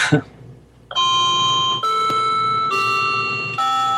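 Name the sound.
clock ringing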